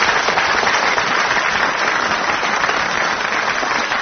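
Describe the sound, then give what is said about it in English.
A crowd applauds steadily for the week's winners, Tim Brooke Taylor and Willie Rushton, a dense, even wash of many hands clapping at once that stays loud from start to finish, with no voices rising above it. “Round of applause for them, please.”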